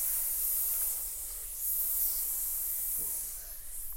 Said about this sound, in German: Ah, Schlangen, schnell weg hier.